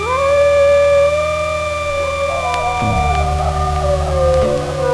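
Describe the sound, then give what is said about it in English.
Several wolves howl together in long, overlapping, sustained tones that slide up and down in pitch, loud and continuous for the whole stretch, with no talking. “The howl of the threatening wolf, that ugly signal of catastrophe, echoes through our culture.”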